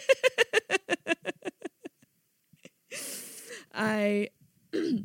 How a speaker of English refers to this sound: I'm sorry I keep clearing my throat, but I was smoking weed earlier.